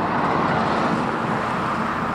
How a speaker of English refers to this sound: Cars drive by often.